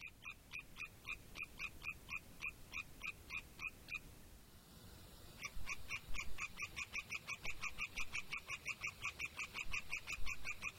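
A chorus of European tree frogs gives rapid, evenly pulsed, high-pitched rattling calls, loud and insistent, breaking off briefly before resuming with even more voices. No one speaks.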